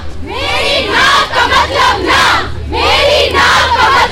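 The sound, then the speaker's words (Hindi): A crowd of school and college students, girls and some boys, shouts and chants together on a street, protesting forced love, restrictions, harassment and rape; loud voices rise in two big surges with a brief dip between them and a steady low rumble underneath. “लड़कियाँ अपनी आवाज बुलंद कर रही हैं, लड़के साथ दे रहे हैं।”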